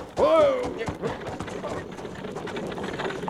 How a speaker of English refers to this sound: you see that buckboard coming toward us, lickety-split? Yes, I do. If I know anything about horses, that team's running away.